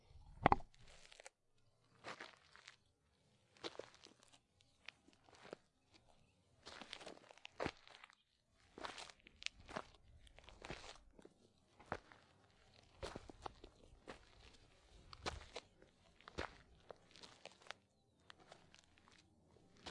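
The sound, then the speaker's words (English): Footsteps crunch over gravel and loose dirt inland from Carpinteria, Santa Barbara, in a steady walking rhythm, each step a short, gritty burst, fairly quiet with brief gaps between strides. “These are footsteps on gravel or otherwise assorted dirt.”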